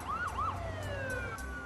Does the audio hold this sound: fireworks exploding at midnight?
no